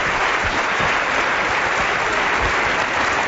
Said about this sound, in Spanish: Al final, por supuesto, una enorme ovación.